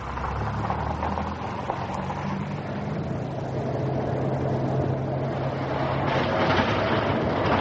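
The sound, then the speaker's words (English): An old banger car drives steadily along a gravel road with a low engine rumble over a constant rough crunch of gravel, recorded as a sound effect. Near the end it turns onto a cobblestone surface and the tyre noise shifts to a bumpier cobblestone rattle. No voices. “Well, we want a recording of an old banger like yours driving along a gravel road, turning onto a cobblestone surface with a short drive over concrete and pulling up this wheel of brakes on a wet patch of mud.”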